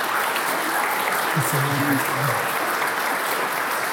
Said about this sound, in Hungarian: Szeretek én egy nagy tapsot a fiatal embereknek.